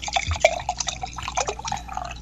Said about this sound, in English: Wow. She just poured herself a glass of wine.